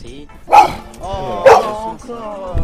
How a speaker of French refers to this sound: Le grand parc du Maquis est vraiment extrêmement calme. Et puis là, dans un coin, il y a un chien policier. Il n'a pas tardé de nous aboyer dessus.